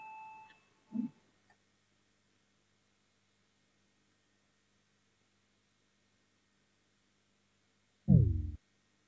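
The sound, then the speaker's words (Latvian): A brief electronic parliament voting bell tone, rung to call a vote on a bill amending the Criminal Procedure Law in its second reading, sounds at the very start and fades quickly, followed by a soft knock, a long quiet stretch, and a loud low thud near the end. “Lūdzu, zvanu, balsosim par likuma projektu grozījumu krimināla procesa likumā otrajā lasījumā.”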